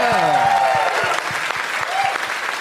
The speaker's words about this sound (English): I got a woo. I'll clap for that. A single woo.